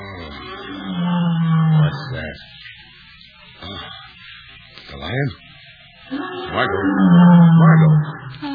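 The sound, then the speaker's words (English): A lion roars twice at night, deep rumbling groans that swell and fade, separated by a few seconds of quieter low grunts and faint stirring. “Don't you hear it? I never dreamed they sounded like that.”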